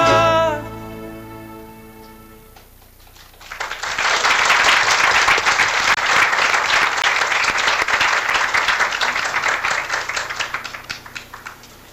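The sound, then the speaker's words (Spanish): An audience breaks into sustained applause, a dense, steady wash of many hands clapping, following a fading sung or sustained tonal note at the start. “Bueno, esos aplausos también van para toda la gente que colaboró para este video.”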